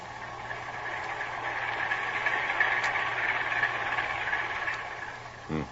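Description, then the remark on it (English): A ship's heavy engines and twin propellers churn in a steady, muffled mechanical drone that swells slightly midway, heard alone at moderate loudness with a constant low hum beneath. “Heavy engines and 2 propellers.”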